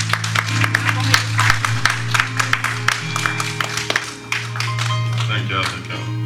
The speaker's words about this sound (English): Come on, put your hands together for him. And he's coming forward. Come on, keep on clapping. Keep on clapping.